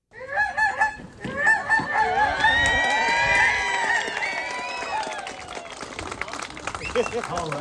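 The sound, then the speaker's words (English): Several people honk and squawk in imitation of geese at a Fourth of July celebration in Kotzebue, Alaska, their nasal calls overlapping loudly and continuously, with a burst of many voices at once and a chattering crowd underneath. “Or imitating goose calls in Kotzebue.”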